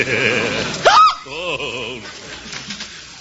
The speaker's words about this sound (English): Well, you should do something about those hiccups.